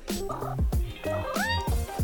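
A cat meows loudly in a run of quick, warbling calls with rising and falling pitch, broken by short rough bursts; no one speaks.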